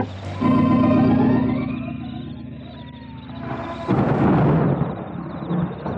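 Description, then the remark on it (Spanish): A deep, droning roar-like tone holds for a few seconds, then a close, loud thunderclap bursts in and rumbles heavily to the end. “Un trueno se oye cerca y todos se estremecen con el impacto.”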